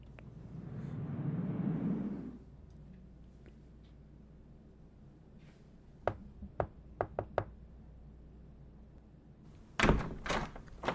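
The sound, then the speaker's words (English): A door is pushed open with a low, rumbling scrape, followed by a few scattered wooden knocks and clunks, then a sharp slam as it shuts, with no talking. “You use the door?”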